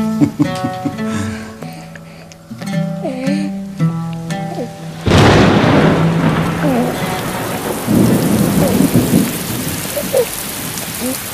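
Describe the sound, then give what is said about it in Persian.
Music with sustained tones plays, then a heavy downpour of rain that ends a drought abruptly takes over, a loud steady hiss of falling water with occasional low rumbles, continuing to the end without voices. “باران هم از برکت قدوم توست فرزندم.”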